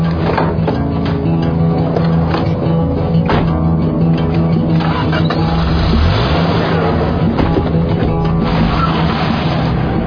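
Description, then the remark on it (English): A car engine idles steadily and loudly, then revs up with a rising whine partway through before settling back to a low rumble. “Get in the car.”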